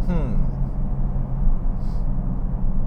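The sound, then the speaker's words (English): A car's engine drones low and steady as it drifts out on the exit of a wet, slippery corner from too much power on the exit and little weight in the front, a rising whine at the start and a brief hiss of spray midway. “Just experience a little drifting out on that really wet, moist corner there.”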